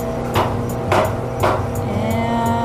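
A tool punches through the liner of a sediment core fresh from the seafloor to take a gas sample, with three firm strikes about half a second apart, then a few lighter taps, all over a steady low humming drone with no talking.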